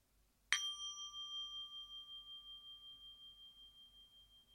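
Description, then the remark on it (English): A single meditation bell is struck once, a bright metallic strike followed by a long, pure ringing tone that slowly fades and wavers over several seconds. “And then I'll invite the bell to fully ring.”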